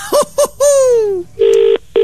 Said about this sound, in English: Oh, that's Britain. That's Britain. That's not American ringtone.